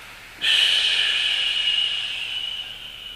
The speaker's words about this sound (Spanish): Una gran inhalación, cerramos los ojos, la columna recta, exhalamos todo el aire de los pulmones.